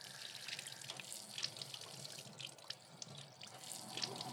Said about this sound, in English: We're standing in front of the spring of water that has been here for ages. When Mother Cabrini first purchased this property, they told her there was no water.